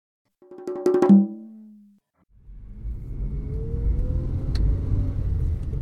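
A brief harmonic, horn-like tone sounds, then after a pause a car's engine rumble rises and settles into a steady drone of driving along a road in Mexico City, with no talking.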